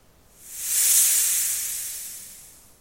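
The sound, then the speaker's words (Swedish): A loud, airy hiss from a huge white-scaled snake, at least 2 meters long, coiled around a small midsummer pole, rises quickly, holds for about a second, then slowly tapers off over nearly three seconds. The sound is a steady, breathy sibilance with no voices. “Så hörde min farmor plötsligt någonting från midsommarstången. Ett högt väsande.”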